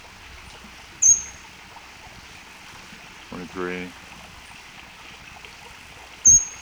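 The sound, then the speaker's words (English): Two brief, sharp, high-pitched bird calls ring out about five seconds apart, with a man's voice speaking briefly between them over a steady, faint watery background hiss. “There definitely are two birds here.”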